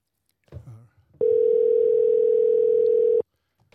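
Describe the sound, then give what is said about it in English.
A single steady telephone ringing tone hums for about two seconds, loud, on a telephone call with New York, just after a brief muffled voice sound. “Are we ringing him? Or is he ringing us?”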